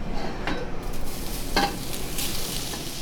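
Goat meat sizzles steadily in a hot pan as it is grilled, a dense crackling hiss with a few sharp clinks and scraping stir sounds over about three seconds, no voices.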